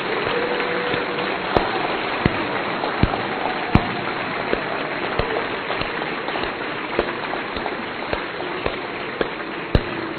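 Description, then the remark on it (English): A crowd at a religious service applauds to give God a hand, steadily for about ten seconds, a dense wash of clapping with a few sharper, louder claps standing out now and then. No one speaks over it. “Crowd, give God a hand.”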